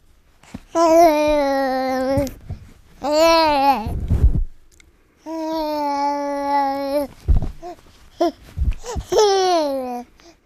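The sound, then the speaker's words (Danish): A 5-month-old baby babbles into a microphone in long, sing-song vocal bursts with rising and falling pitch, separated by short pauses and a few breathy, rustling bumps as the baby handles the microphone and its foam cover. “Klog på Sprog, de vil gerne vide, hvorvidt man kan høre på babyers pluderen, hvilket sprog deres forældre taler.”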